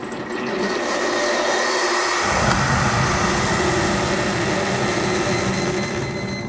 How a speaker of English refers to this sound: This one is the second cup. It should be a little bit quicker. And as we go, it's now, I'd say in the next 4 or 5 seconds, it's going to start to boil and you'll hear it come out. There it goes. It's just about to steam.